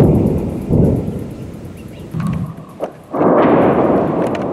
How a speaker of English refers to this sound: Explosions rocked southern Lebanon on Monday. Smoke could be seen rising following Israeli airstrikes.